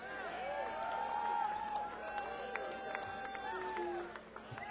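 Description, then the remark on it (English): A crowd applauds and cheers for the band after a funk instrumental, a steady wash of clapping mixed with whoops and voices that holds at a fairly even level for a few seconds. “How about a nice round of applause for the band so far?”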